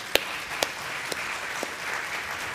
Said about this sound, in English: Can we all give a round of applause